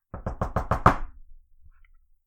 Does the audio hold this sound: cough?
no